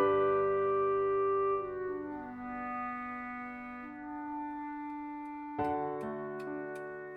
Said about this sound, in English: Althea sat in Sound's office, the clock continuing to count the seconds as he reviewed her full account of the events.